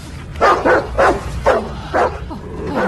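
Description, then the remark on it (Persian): A dog barks repeatedly, about six sharp, fairly loud barks in quick succession with short gaps, over a low background rumble. “سگ ای سلام سگ، آروم باش”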